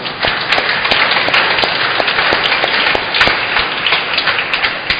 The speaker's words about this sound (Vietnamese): Một lần nữa chúng ta chúc mừng ban lễ sinh nhân ngày bổn mạng bằng một tràng vỗ tay.